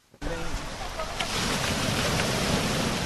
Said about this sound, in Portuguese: O barulho das ondas do mar, rajada de vento e chuva fortes anunciam maré turbulenta.